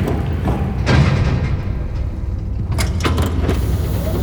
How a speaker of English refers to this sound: There's a button on the ground. If I tap it with my heel... Look! The secret elevator rising up from the marble.